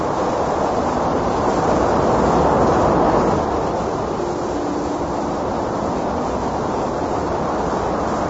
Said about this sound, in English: You begin to hear something like this if you're lying in bed at night in a city and you hear the far-off, distant rumble of traffic and so forth. It begins to sound very much like this white noise.